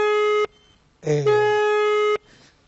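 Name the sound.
telephone line tone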